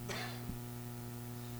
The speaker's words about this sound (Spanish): Me pegó la tos.